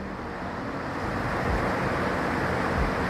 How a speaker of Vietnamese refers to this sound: Nào, đóng cửa vào. Nó chắn bớt nước vào. Ô tô đi qua là nước.